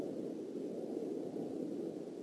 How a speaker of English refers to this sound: the same camera that we're going to show you the UFOs is just to show you how birds look and how planes look, and also you can hear combustion, propulsion sound.